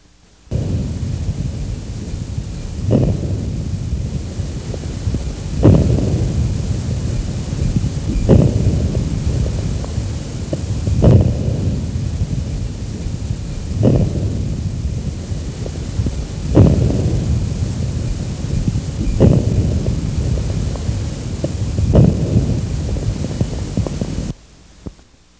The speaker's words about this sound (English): Crackles may be classified as to position in the respiratory cycle. You will now hear early inspiratory crackles.